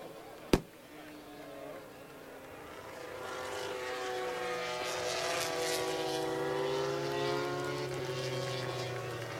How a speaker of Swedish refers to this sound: De vinkar till publiken och publiken reser sig upp, applåderar, saluterar och till och med skjuter lite fyrverkerier.